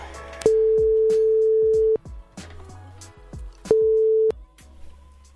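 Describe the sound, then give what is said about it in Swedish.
A phone line rings out with two steady, mid-pitched ringback tones while a number is being called, the first about a second and a half long and the second cut shorter, over faint clicking and plucked background sounds. No one speaks. “Det vore ju det mest troliga att det har med det, och jag tänker om det är något annat nummer, men vi får väl se om när vi ringer det.”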